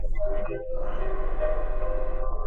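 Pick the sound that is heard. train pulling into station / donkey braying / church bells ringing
train pulling into station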